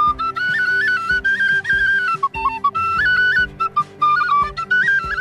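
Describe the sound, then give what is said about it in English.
A bright penny whistle plays a lively, ornamented folk melody with quick trills, carried over a steady droning accompaniment with a light rhythmic pulse, clear and up close, no voices. “his magical penny whistle.”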